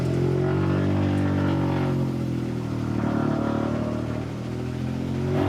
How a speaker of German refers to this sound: Der ist laut. Der ist schön laut. Aber macht auch echt Spaß mit dem Auto.